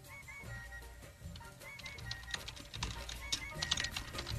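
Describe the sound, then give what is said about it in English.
A man types on a computer keyboard, keys clacking in quick, irregular bursts, getting busier and louder partway through, over a low background hum with no one speaking. “You can hear him typing.”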